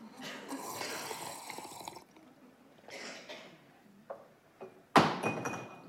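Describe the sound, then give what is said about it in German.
Slurping sips of a drink from a glass come in a few noisy bursts, then the glass is set down with a sharp, ringing clink that fades briefly; the glass does not break. No talking. “Das war das Glas für alle im Radio.”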